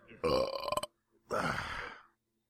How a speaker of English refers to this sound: I don't know why I was expecting something after the burp for some reason.